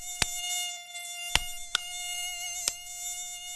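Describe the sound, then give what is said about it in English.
On a hot summer night in New York, a mosquito's thin, steady high-pitched whine drones continuously in a bedroom while four sharp, loud slaps crack out at irregular intervals as people in bed swat at it. No one speaks. “Within seconds, we'd hear the whine, and then came the slaps.”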